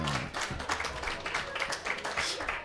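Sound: audience applause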